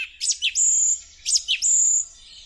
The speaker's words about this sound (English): And that, if you didn't recognise it, is the song of the song thrush. And for me, one of the most beautiful songs that you can hear at this time of year.